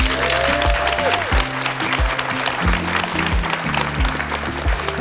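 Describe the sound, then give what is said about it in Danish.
An audience in the hall at the DR stage at the Bogforum book fair claps steadily for several seconds, a dense, even wash of many hands with no voices over it. “Vi er på DR-scenen i Bogforum foran et publikum i salen. Og må vi høre, at I også er her?”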